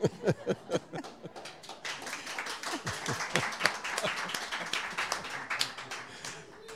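An audience bursts into applause: a few sharp, separate claps at first quickly swell into steady, dense clapping from many hands that holds at an even level throughout.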